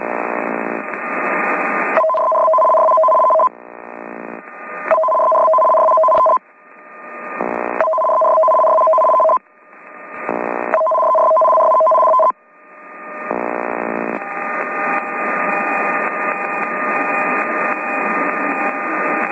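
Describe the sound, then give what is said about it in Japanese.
An emergency warning broadcast test signal sent over CBC Radio: a loud, harsh buzzing tone alternating in rapid on-off bursts with a steady two-note warble, repeating several times before settling into a continuous rasping tone. “ではただいまからテスト信号をお送りします。”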